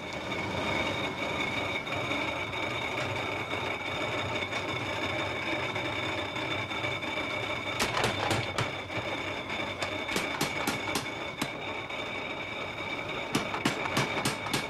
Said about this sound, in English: Fred geared down his old steamroller to drive the machinery he'd use in beating out parts for the new engine.